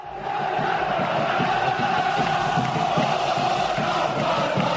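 A large crowd of Unión Deportiva Las Palmas home football fans in a full stadium roars and chants continuously, a dense, loud wall of voices with steady rhythmic surges throughout, no single speaker standing out.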